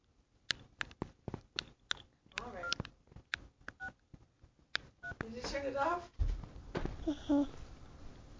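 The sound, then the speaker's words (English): Telephone keypad tones beep in a quick, irregular string of presses as a small child goes to answer the phone, with a young voice babbling between and after the beeps. “Oh, she just went to answer the phone.”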